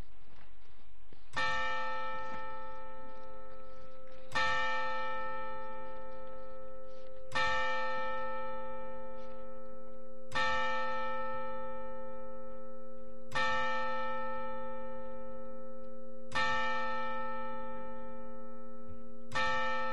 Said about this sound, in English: We'll have a moment of silence and the ringing of the bell.